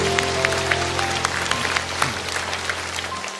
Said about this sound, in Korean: 주신 하나님께 영광의 박수 올려드리겠습니다.